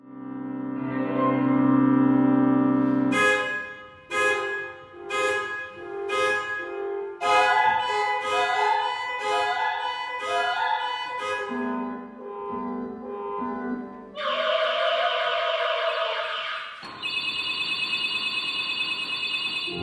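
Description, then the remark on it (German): Car horns blare in a dense, jammed-traffic clamor, heard as part of a musical piece: a long held honk, then a string of short overlapping blasts, then more sustained horns at shifting pitches, loud throughout with no talking. “also könnte ein zukünftiges Opernprojekt sein, das ein ganzes, vielleicht ein Klavier, aber vielleicht auch ein ganzes Symphonieorchester spielt und auch noch ein Sopran hinzukommt und da hört man aber dann auch die Autohupen in diesem Stück.”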